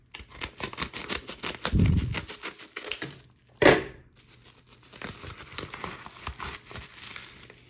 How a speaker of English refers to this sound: Let's see if I can just use the scissors here.